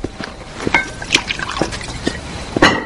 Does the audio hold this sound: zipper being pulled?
no